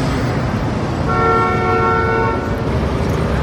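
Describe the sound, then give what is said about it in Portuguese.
A large garbage truck dumps rubbish beside a lake in a forest clearing, rumbling loudly and steadily, with a long, droning horn-like blast rising over the noise midway through; no one speaks. “De repente, ouviu-se um barulho assustador. Era um caminhão enorme a despejar lixo, ali perto de um lago, numa clareira da floresta.”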